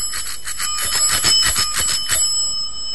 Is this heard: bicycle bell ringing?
yes